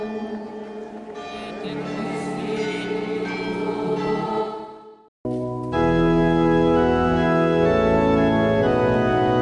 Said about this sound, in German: Als der Papst die Menge segnen will, schlagen die Glocken von Fatima ein Pilgerlied an.